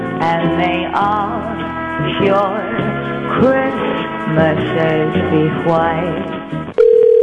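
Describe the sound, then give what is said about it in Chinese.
A phone call's Christmassy ringback music plays for several seconds, then cuts to a loud, steady, flat busy tone at the very end as the called business does not pick up. No voices are heard. “那显然有生意啊。我们要再打一次吗？还是等一下？”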